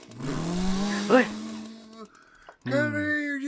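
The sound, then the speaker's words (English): A voice mimics a chainsaw starting up and revving, with a buzzy, sustained drone that surges, cuts out briefly, then roars back in a second loud burst. “Starts chainsaw.”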